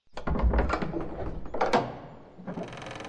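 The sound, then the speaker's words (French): A heavy castle door swings open with clanking, grinding mechanical noises and a solid thunk, then a steady, airy rumble lingers. It sounds fairly loud, with no voices. “Après une longue marche, ils arrivèrent enfin devant les portes du château de la mort.”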